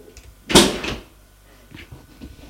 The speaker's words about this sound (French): Il l'amène au chalet. Passe par la terrasse qui donne directement sur la piste. Pose les skis dehors. La terrasse à des tables et des chaises de jardin. Ouvre la porte et ils entrent.